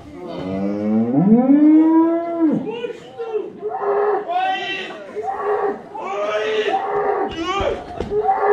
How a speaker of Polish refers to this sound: A chodź, na błoń, w łaborce z to bydlątko stoi, chodź, to zaprowadzę. Zara, zobaczy. O, jaka ładna ta krówka.